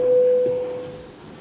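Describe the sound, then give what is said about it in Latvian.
A single steady electronic tone, a parliamentary voting signal called before the vote on the bill amending the Forest Law in its first reading, sounds clearly for under a second before cutting off, leaving a faint hum of room noise. “Lūdzu zvanu, balsosim par likuma projektu grozījumi meža likumā pirmajā lasījumā.”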